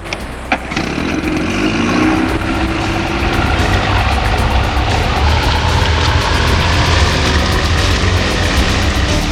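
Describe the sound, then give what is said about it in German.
An old boat engine revs up and runs flat out as the boat hurries back to the harbour, a loud, steady, throaty drone with rattling mechanical noise that holds unbroken. “Alf fuhr, so schnell es der alte Motor zuließ, zurück zum Hafen.”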